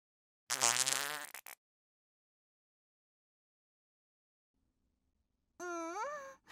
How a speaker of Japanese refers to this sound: おっきい音、いいわ。やっぱりおならはこうでなくっちゃ。お腹とお尻に思いっきり力を入れて、大きな音でブーって。